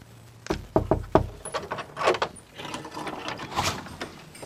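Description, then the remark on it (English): Four sharp knocks on the wooden door of a house in quick succession, followed by rattling and clattering, like a latch being worked and the door handled. “Knock on the door.”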